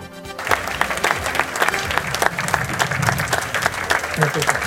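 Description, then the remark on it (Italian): An audience applauds steadily, a dense wash of many hands clapping at a fairly loud, even level throughout, with no voices standing out. The applause is for journalist Tito Stagno at the presentation of the Città di Caorle special career prize in Caorle, Veneto. “Grazie dell'applauso, che vuol dire affetto, vuol dire stima per quel lavoro che ho fatto tanti anni fa e che vi assicuro ho sempre fatto con serietà e diligenza, pensando a voi, a chi mi ascolta e non ad altri.”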